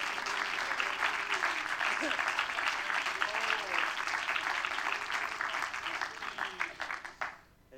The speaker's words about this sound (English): And why don't you clap your hands one more time to the Lord of Lords.